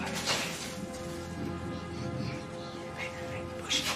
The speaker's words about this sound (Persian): داره بارون میاد.